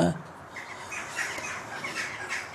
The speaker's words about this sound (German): Ja, sind die Vögel da. Das sind Elster, ne? Ja.